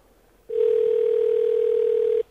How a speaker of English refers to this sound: And, that sounds like Bernie S.'s phone. Sounds like Bernie S.'s phone to me.